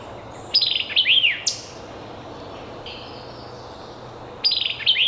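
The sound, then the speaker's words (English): A bird sings a bright phrase of sharp chips and rising, slurred whistles, pauses for a few seconds, then starts the same chipping phrase again. No one speaks, and a soft low hum runs underneath. “To some people, the chips and whistles we just heard has been likened to the catchy phrase, "Quick, go get the beer check."”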